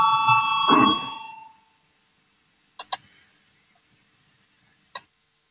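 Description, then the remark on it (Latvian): A single electric bell in a parliament chamber rings to call a vote on proposal 213, with a bright, sustained metallic tone that fades out after about a second and a half, followed by a few sharp, isolated clicks. “Lūdzu zvanu balsosim par 213 deputātu Valainu priekšlikumu.”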